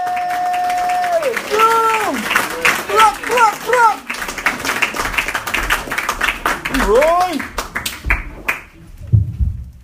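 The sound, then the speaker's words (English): A comedy show crowd applauds steadily with dense, loud clapping for about ten seconds as the next comedian comes to the stage, joined by a few rising and falling whoops and cheers, before the clapping thins out at the end. “All right, keep that applause going for your next comedian coming to the stage, the very funny”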